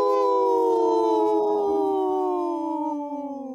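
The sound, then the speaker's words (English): A person on Native Roots Radio lets out a long, loud wolf-like howl, a single sustained tone that slowly slides downward in pitch before trailing off, with no other voices or sounds around it. “Wow, that was the best howl we've had in a long time”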